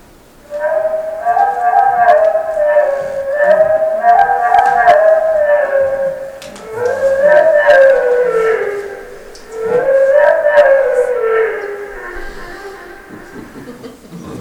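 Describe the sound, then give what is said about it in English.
A wood thrush song slowed way down into long, sliding, wavering tones with rich harmonics, rising and falling in three drawn-out swells that sound eerily like a howl or siren. “Now we're going to slow it way down to the level at which the detail that the wood thrush can hear it.”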